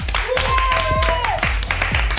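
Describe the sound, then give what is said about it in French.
Steady applause and clapping welcoming a Fun Radio DJ at the biggest electro festival in France fill the short clip, layered over a loud musical jingle with a thumping regular beat and a sustained synth tone. “Mais là, applaudissements pour un DJ qu'on aime, un DJ de la famille Fun Radio.”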